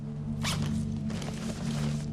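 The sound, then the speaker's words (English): In a garage, a bag holding cyanide and masks is unzipped in a quick rasping burst, followed by a longer, softer run of zipping over a steady low hum. “She locks the door as he opens the bag, then walks close to Ren.”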